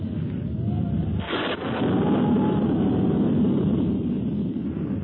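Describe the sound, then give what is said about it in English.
Wind howls steadily around an old castle for several seconds, a loud, rushing roar with a faint, wavering whistle rising and falling above it and one brief gusting surge early on. No voices. “It's cold in this old castle. That wind's bad.”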